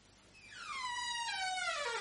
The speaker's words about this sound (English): I really must oil the hinges of this door.